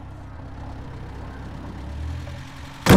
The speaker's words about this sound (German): Da draußen fahren Autos vor. Vier Stück. Scheinen Polizeiwagen zu sein.